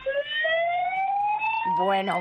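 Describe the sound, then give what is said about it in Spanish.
A police siren wails with a slowly rising tone, strong harmonics stacked above it, then shifts near the end into a quicker warbling sweep, loud, with faint low background rumble. “He quedado con tu compañero que te iba a dar una sirena.”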